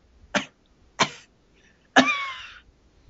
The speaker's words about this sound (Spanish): persona que me dijo eso igual es como un marihuano, porque está tosiendo